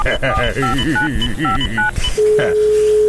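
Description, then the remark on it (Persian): A phone number is dialed as a quick run of about a dozen touch-tone beeps, loud, while a voice goes on underneath, followed by a single steady line tone. “این دفتر تلفنه کو؟ آنجاست بسا.”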